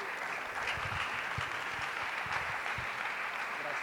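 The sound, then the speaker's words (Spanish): A church audience applauds steadily for the Lord for the life of their pastor, many hands clapping in a dense, even wash of sound that holds a constant loudness throughout, with no voices standing out above it. “Damos un aplauso al Señor por la vida de nuestro pastor”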